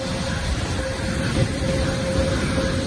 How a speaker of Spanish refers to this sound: Sonido de motores mientras decenas de personas llenan de forma silenciosa el interior del aparato que después les ha trasladado a Dubái y ahora vuelan hacia Torrejón, a donde han ido llegando unos 1.200.